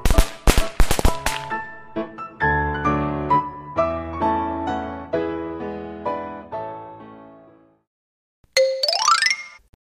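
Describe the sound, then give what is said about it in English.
A quick string of sharp firecracker pops crackles at the start, then gives way to a bright chiming melody and a rising whistle-like sweep near the end, with no voices. “You should stay away from firecrackers.”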